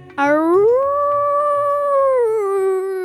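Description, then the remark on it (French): A single long howl from a wolf named Haroun, heard from afar at the edge of a wood, swells upward in pitch, holds a steady mournful tone, then slowly slides back down over about three seconds, loud and unbroken, with a faint low hum beneath. “En se baladant à l'orée du bois, Mûre entend de loin hurler Haroun, son frère loup.”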